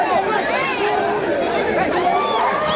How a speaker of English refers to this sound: At an asylum office in Mexico, a crowd of mostly Haitian migrants trying to rush the building, some having waited weeks for an appointment.